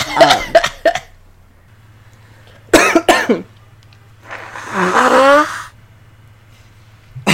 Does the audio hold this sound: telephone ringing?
no